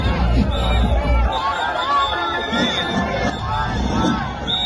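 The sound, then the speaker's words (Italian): A large outdoor crowd of an estimated 22,000 people at a festive parade with costume groups and drums fills the scene with steady babble and chatter, scattered cheers and shouts, including Free Palestine shouts from protesters in the crowd, rising above the hubbub, with a low rumble underneath throughout. “In generale un ambiente festoso al quale in alcuni momenti si sono sovrapposte le urla Free Palestine di manifestanti mischiatisi tra la folla.”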